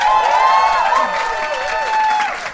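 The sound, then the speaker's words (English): An audience applauds steadily for a couple of seconds, the dense clapping mixed with cheers and a few sliding whistles over the top. “Give me a round of applause if you have heard our podcast before.”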